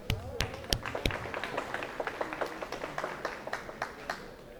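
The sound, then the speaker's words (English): A scattered round of clapping from a small group of attendees at a retirement planning seminar, the sharp claps irregular and fairly steady for several seconds, with a faint murmur of voices underneath. “I think you deserve a round of applause just for coming today.”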